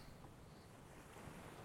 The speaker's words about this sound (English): It's weird, no? Just suddenly the ocean, ocean sound is coming. Yeah.